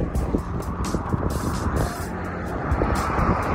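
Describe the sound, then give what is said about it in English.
Fast cars roar past on a busy dual carriageway on their way to the airport, a continuous, fairly loud rush of engines and tyre noise with no pauses and no voices. “Cars are flying past on their way to the airport.”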